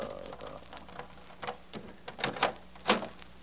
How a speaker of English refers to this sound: Open the door